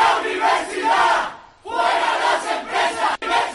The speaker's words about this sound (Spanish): Gritos y protestas a las puertas de la sede del Consejo Social de la Universidad en la Plaza del Riego de Oviedo, donde ha habido algún momento tenso